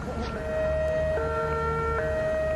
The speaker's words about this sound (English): Wednesday, you might wake to this sound, or it might even interrupt the most boring lecture you've ever had to sit through. Wednesday's siren will indicate a test, but all others after that mean danger.